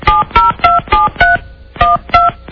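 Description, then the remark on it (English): A rapid run of seven touch-tone keypad beeps, each a short dual-pitched electronic tone, pressed in a quick uneven rhythm with a brief pause partway through, heard clear, as someone dials a cell phone. “We'll try you on your cell phone.”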